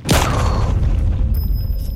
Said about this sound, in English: in these last seconds, Victor, Arthur, and Marvin, you would hear another gunshot